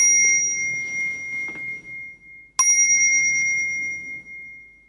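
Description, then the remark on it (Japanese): A temple bell is struck twice, each strike ringing out bright and clear. The second hit lands about halfway through, and the tone sustains and slowly fades, with no voices. “それはね、自分が願いを込めてついた鐘の音があなたの心をね、活を入れるんだと思いますけどもね。”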